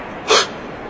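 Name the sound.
a sneeze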